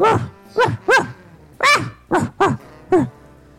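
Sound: dog barking and growling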